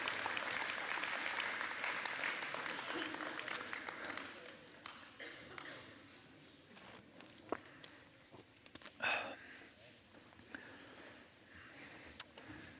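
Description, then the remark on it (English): A round of applause in a church as the kids and youth are dismissed before the preaching, dense and crackling for about four seconds, then thinning into scattered claps, shuffling and a few isolated sharp knocks as the crowd settles. “Before I start preaching, kids, you're dismissed with a big round of applause.”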